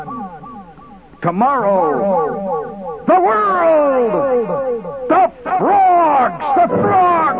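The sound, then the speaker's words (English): A voice in a movie advertisement speaks a few dramatic, drawn-out phrases drenched in echo-chamber reverb, each line trailing off into a hollow, ringing tail in the foreground. “Give me a little echo chamber.”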